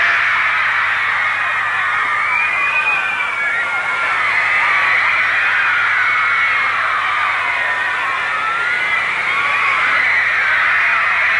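A huge crowd of fans outside the Southern Cross screams and cheers continuously as a band appears at a 12th-floor window, a dense, piercing wall of high-pitched shrieks that stays loud and unbroken throughout.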